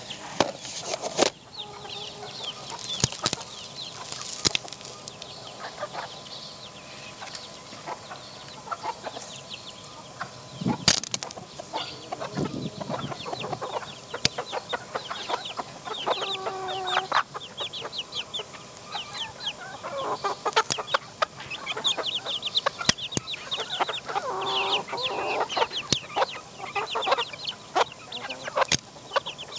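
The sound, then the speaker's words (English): White fluffy silkie chickens and little brown chicks cluck and murmur close to a microphone set down with food around it, in a steady, busy chorus as they come over to eat, with occasional sharper calls, soft rustling and brief wing flaps among them, and no talking. “I'm going to put the microphone down and then I'm going to put some food around it and I'll see if they'll come over and eat.”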